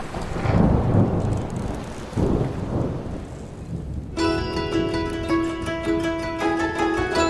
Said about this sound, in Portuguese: Perfeito, pois parece que uma tempestade se aproxima.